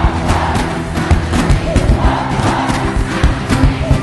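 A large crowd sings a song's chant together at full volume, voices massed and dense with a steady rhythmic pulse, continuous throughout.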